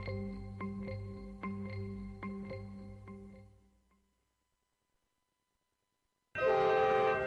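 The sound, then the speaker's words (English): A train horn sounds a sustained chord over the rhythmic clack of wheels, which fades into silence before a second, louder horn blast cuts in abruptly at the end. “One of the top 10 most scenic train rides in the world, the Adirondack travels daily from New York City to Montreal.”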